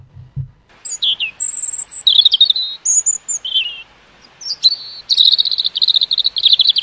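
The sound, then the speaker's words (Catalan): A European robin (Erithacus rubecula), a small, rounded bird about 14 cm long, sings a varied run of high, thin warbling phrases and sparkling trills with brief pauses between them, clear, after a soft low thump at the start. “Fauna de Braffin, el pit roig. El nom científic del pit roig és Heracius rubecula.”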